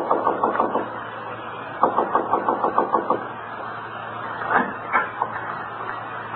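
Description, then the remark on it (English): Knocking on the door of a quiet house in rapid sets: a short cluster of raps, then a longer run of about seven even knocks, then a few scattered, firmer ones over a low steady hum. “So I just kept knocking, knocking.”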